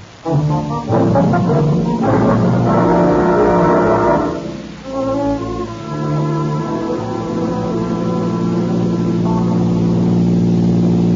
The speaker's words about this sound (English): Hey, a car that just passes, Andy. What car? Look at the license number.